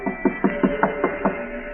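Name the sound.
knocking on a door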